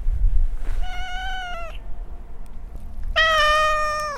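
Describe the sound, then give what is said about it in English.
A cat meows twice, wanting to come in after the doors have been closed, each a long drawn-out, slightly wavering cry, with a pause between them and low rumbling background noise. “You want to come in now I've closed the doors? Oh, this is the worst. Cats!”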